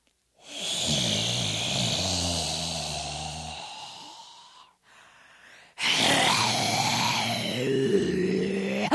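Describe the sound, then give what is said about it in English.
A voice imitates a magic-marker-breathing dragon: two long, loud, rasping exhalations with a growly, snore-like texture, separated by a brief quiet catch of breath, without any speech. “It was a magic marker breathing dragon.”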